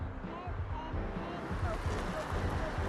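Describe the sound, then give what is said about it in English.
A van's engine rumbles low and steady as it rolls slowly into an empty parking space outside a restaurant, a continuous motor drone with a faint murmur of voices in the background. “Outside a restaurant, the van pulls into an empty parking space.”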